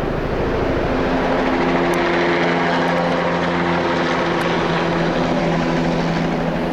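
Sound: helicopter roaring overhead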